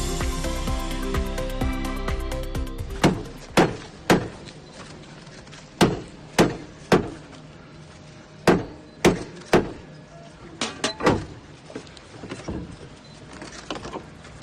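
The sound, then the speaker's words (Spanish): Sharp, echoing knocks strike a heavy door in several sets of three, after a brief stretch of sustained ringing tones, as the Door of Forgiveness of the monastery of Santo Toribio de Liébana in Cantabria, Spain, is ceremonially opened to begin a jubilee year. No voices are heard. “Así sonaba la apertura de la Puerta del Perdón.”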